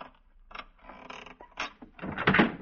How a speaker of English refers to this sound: Look at that dresser. The drawer is locked here. Hand me the screwdriver.